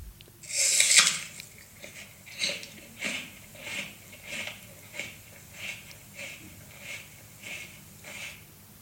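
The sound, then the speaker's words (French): Someone chews steadily with wet, crunchy bites repeating roughly every half second, following a louder rustling burst at the start. No one speaks. “C'est quelqu'un qui mâche beaucoup.”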